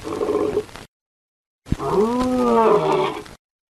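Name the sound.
lion roaring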